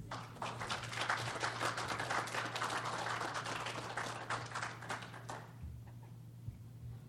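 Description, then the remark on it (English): An audience at a meeting applauds its speakers with dense, steady clapping for several seconds before it quickly dies away, leaving quiet with a faint low electrical hum underneath. “Could I have another big round of applause for everybody, for all of our speakers?”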